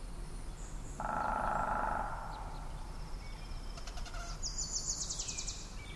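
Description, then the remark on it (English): Birdsong in an outdoor setting: a sustained mid-pitched call early on, then rapid high trilling chirps toward the end, fairly soft against a steady background hum, with no one talking. “Coming up, Gordon Hempton on how birdsong has helped humanity survive and how sound and silence affect the way we treat other people.”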